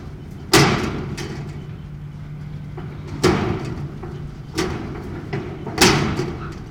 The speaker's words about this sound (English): Even after the service, just about the loudest sound in town was a wind-blown piece of tin roof slamming over and over into the building's rafters.